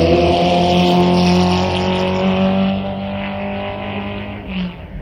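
A fuel-injected 1962 Lola Climax race car with a 6-speed Colotti gearbox, weighing about 1,000 pounds, roars loudly with a steady, buzzing whine, then gradually fades as it moves away. No voices are heard.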